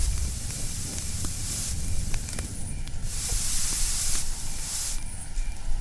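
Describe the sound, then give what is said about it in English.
Steady rain hisses and sizzles on a fire as the fire goes out, with surges of bright, steamy hissing over a low, crackling rumble. No one speaks. “Maybe we won't have to do anything after all. It's raining.”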